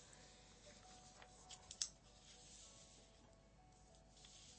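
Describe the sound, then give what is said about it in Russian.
Soft rustling of the pages of a children's book being turned, a few brief papery flicks clustered near the middle, against a quiet background with no voices. “Тут мы запутались в листочках книжки, но мы сейчас найдем, что было дальше.”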